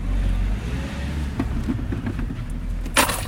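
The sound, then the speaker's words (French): A van's engine rumbles low and steady throughout, with a few light clicks and rattles, then a brief sharp burst of noise near the end as the van moves off. It is an evening in Paris, and the van's crew is out collecting shared electric scooters to recharge them. “Là, on rentre dans la camionnette.”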